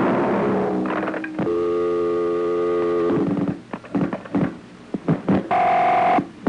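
Telephone dialing tones: a long, steady buzzing tone gives way to a quick run of short electronic beeps, then a final held two-pitch tone, with no one speaking.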